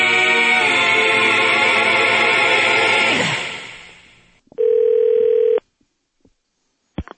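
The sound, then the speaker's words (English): A jingle fades out, followed by a single loud, buzzy telephone ring lasting about a second, then near silence with a couple of faint clicks. “Very quick 10-minute phone call for you.”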